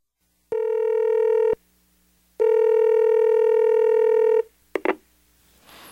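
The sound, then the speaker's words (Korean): Telephone dialing tones: two long, steady electronic beeps, the second longer than the first, clear, ending in a brief click like a handset picking up. No one speaks. “그래, 그래. 전화기가 어딨지?”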